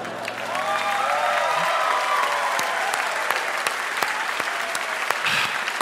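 audience applause and cheers

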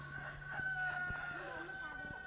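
rooster crowing

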